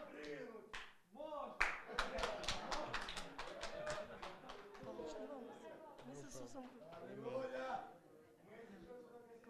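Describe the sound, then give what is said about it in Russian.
A crowd claps hands in a burst of sharp, uneven slaps that peaks early and thins out, while voices chatter and call out underneath throughout. “Можно? Можно хлопать.”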